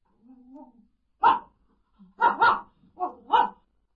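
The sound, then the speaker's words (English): A blind man's dog gives a soft, low whine, then barks sharply about five times in uneven bursts, including a quick double bark, fairly loud with brief pauses between. “He has a dog. His dog is his eyes.”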